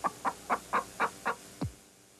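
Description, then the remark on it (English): A rooster crows loudly in an advertisement for VCR Plus: six quick, evenly spaced squawking bursts followed by a single note sliding downward, then quiet. No one speaks. “Rooster sold separately.”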